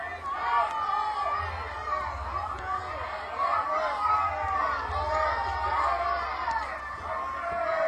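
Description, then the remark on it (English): An audience at an outdoor concert in the rain yells out song requests to the performer, many voices shouting over one another in a loud, continuous jumble of overlapping calls with a steady low rumble underneath. “Y'all know what I do, so y'all want songs you want to hear, yell them out.”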